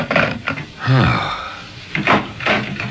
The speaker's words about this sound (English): Oh, I thought I heard someone come in the back door. I wanted to make sure it was you.